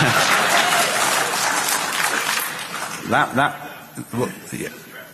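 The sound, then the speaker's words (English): A burst of dense, loud applause from a crowd fills the first three seconds, then thins out and fades as a voice starts talking over the last of the clapping. “Yeah, let's hear it for CSV files, eh?”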